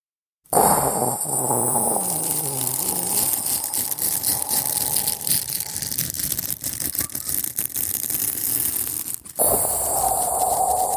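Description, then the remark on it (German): A toothbrush rubbed on styrofoam held up to the microphone, imitating Brazilian rain, in a steady close-up scratchy hiss with continuous fizzing texture for about nine seconds before a brief pause and resumption. “Ole reibt mit der Zahnbürste am Styropor.”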